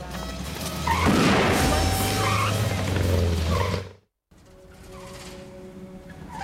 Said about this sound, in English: Stanley drives across a deserted city bridge, the car stuttering to a halt as it gets halfway across. White smoke pours out of the bonnet.